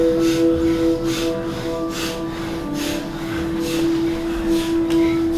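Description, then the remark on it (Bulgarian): Rapid, forceful bhastrika pranayama (bellows) breathing, about seven loud rhythmic bursts of air less than a second apart, pushing over a steady, low droning musical tone that holds throughout. “Мощно дишане.”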